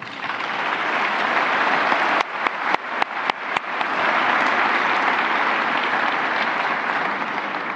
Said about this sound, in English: I think ICANN and the attendees here really deserve a round of applause for supporting Puerto Rico and representing the first major conference to take place in San Juan since the devastating hurricane last year.